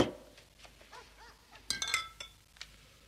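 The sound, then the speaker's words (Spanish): An empty glass bottle is set down on a tavern bar counter with a couple of sharp, ringing clinks, followed by a lighter knock, over a quiet background. “Pío va a la barra y deja la botella vacía en el mostrador. El tabernero le da otra llena.”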